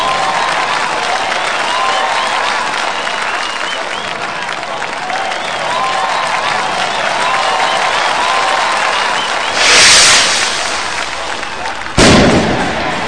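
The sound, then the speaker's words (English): A large sold-out arena crowd cheers, roars and chants a name in a dense, steady wash of voices and applause, with a couple of sharp, loud bursts cutting through near the end. “The crowd comes to life, chanting the name that so many have missed.”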